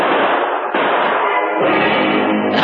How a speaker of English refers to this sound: Shots rang out before he reached the door.